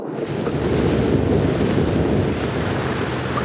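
Steady roar of sea surf washing against the shore, mixed with gusting wind, continuous and fairly loud with no voices.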